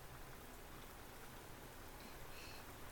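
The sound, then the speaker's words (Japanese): Sudden steady rain falls outdoors in a dense, even hiss with scattered droplet patter, continuous throughout, with no voices present. “突然の雨で災難でしたね。”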